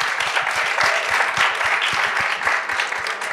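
Steady, dense applause from an audience, many hands clapping at once in a loud, continuous crackle that holds level for a few seconds before tapering slightly at the end.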